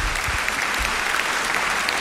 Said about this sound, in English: Thank you. All right. Okay, then. Needs a round of applause, no doubt.